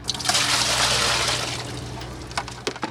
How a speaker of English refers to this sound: McClellan dumps a bucket of water she's just pulled from the Lake Michigan Harbor in Milwaukee.